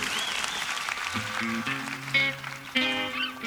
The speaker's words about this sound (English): Don't you clap any louder than that? Oh, please.